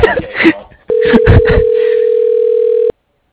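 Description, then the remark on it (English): A steady, mid-pitched telephone ring tone sounds for about two seconds on the line, loud and unbroken, while a voice talks underneath and before it; an outgoing call that goes unanswered, with no voicemail. “Oh, this is my fourth call in a row with no answer, no voicemail.”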